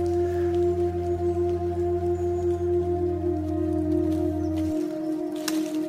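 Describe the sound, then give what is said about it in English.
Steady rain patters and hisses evenly throughout, mixed with a low, constant droning hum whose deepest tone drops away near the end. No one speaks. “The rain has stopped.”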